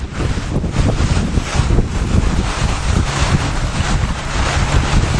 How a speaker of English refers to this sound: As he pilots the boat away from Tillman Island in Maryland, it glides by beautiful homes near the water.